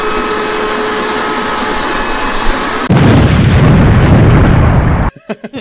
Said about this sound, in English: Or like a vacuum cleaner exploding.